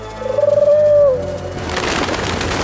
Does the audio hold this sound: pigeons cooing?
yes